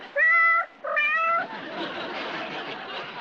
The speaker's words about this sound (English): I know, the cat food commercial is on. He likes to watch them. He's learning how to meow. Meow?